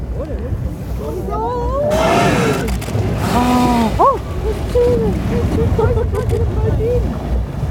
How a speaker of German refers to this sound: Das finde ich eigentlich immer noch am tollsten, nach über 10 Jahren, wenn man die Wale so hört, wie du es gerade eben gehört hast. Kann man so richtig das Volumen hören, dass da 40, 50 Tonnen Wal gerade an einem vorbeigeschwommen sind.